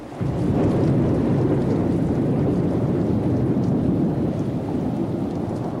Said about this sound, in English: Environments number four, side one, was the ultimate thunderstorm.